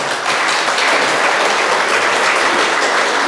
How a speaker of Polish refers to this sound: Bo tego nie powiedziałem, te oklaski to nie dla nas. Właśnie dla tego całego nieba, które jest z nami tutaj obecne.